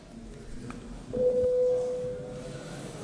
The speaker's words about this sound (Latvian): Deputāti prasa balsojumu. Lūdzu zvanu. Balsošanas režīmu.